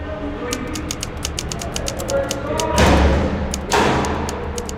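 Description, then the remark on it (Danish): An old mechanical typewriter clatters along in a quick, steady run of sharp keystrokes, broken by two heavier, louder bursts of clacking and thumping near the end, as author Paul Erdmann types in a prison cell in Basel, Switzerland. “Paul Erdmanns fingre flyver over tasterne på en gammel skrivemaskine.”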